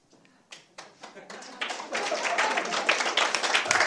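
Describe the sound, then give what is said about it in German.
A crowd breaks into applause for the Lord for miracles and a healing. It starts with a few scattered claps and swells within seconds into dense, steady clapping that stays loud to the end. “Also ich denke, dass es ganz gut wäre, wenn wir den Herrn einfach einen Applaus geben für die Wunder, diese Heilung, die wir erlebt haben.”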